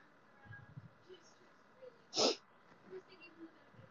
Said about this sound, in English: I keep feeling like I'm gonna sneeze.